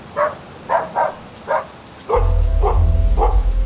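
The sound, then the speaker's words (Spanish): A dog barks about seven times in a quick, steady rhythm, loud, as two dogs being walked meet and greet each other excitedly. Partway through, a heavy low rumble starts up beneath the barking and continues to the end. “Por suerte, justo en ese momento, su perrita se encontró con otro perro que paseaban dos chicas. Los animales se saludaron efusivamente y durante unos minutos estuvieron oliéndose e incluso jugando juntos un rato.”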